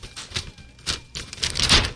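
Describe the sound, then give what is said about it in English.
An automatic roti maker making a roti whirs and clicks, with a run of sharp, irregular mechanical clacks over a low motor hum, no voices. “This thing has got whirring and clicking and buzzing.”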